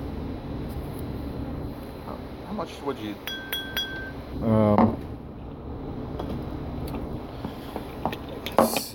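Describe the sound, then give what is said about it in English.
A short burst of water poured into a Coca-Cola glass of about 16 ounces with no ice, its pitch rising as it fills, preceded by a few light glass clinks, with a person talking before and after. “And I'm filling this with water.”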